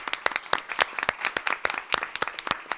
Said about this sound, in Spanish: Que es oye, vas a escuchar el aplauso de la gente que nos está viendo aquí y que te agradece tus palabras.